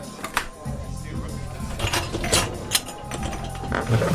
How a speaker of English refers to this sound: I'm just going to unload the dishwasher. Cycle's finished.